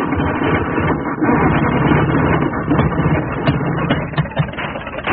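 A vehicle engine being revved up to full power roars loudly and continuously, a dense low rumble with rough, rattling texture that holds at high power for about five seconds, with no one speaking.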